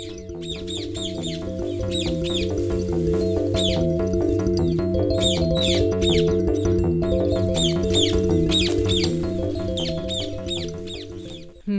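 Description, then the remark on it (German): Many birds in an aviary chirp and call continuously, a busy chorus of repeated bright calls layered over a steady, droning low background tone, with no one speaking. “Ich höre nur die Vögel, die zwitschern den ganzen Tag in der Vogelvoliere.”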